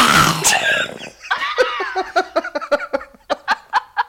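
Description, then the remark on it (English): A man's voice imitates a zombie: a raspy, guttural growl that gives way to a string of rhythmic, staccato grunting bursts, loud and alone. “most useless talent is making the zombie sounds.”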